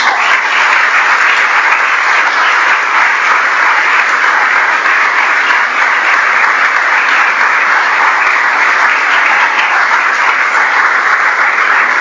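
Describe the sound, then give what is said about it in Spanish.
An audience at a confirmation Mass applauds loudly and steadily for about twelve seconds to welcome the newly confirmed, a dense, even wash of many hands clapping with no voices standing out. “Estamos contentos por esto, damos gracias a Dios, y esta comunidad también los recibe, lo puede expresar con un fuerte aplauso.”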